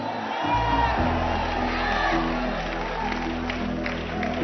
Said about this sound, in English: You are there. You are hearing a man speaking and say, "In 2 years, we will take Ghana, we will take UK," and you are clapping.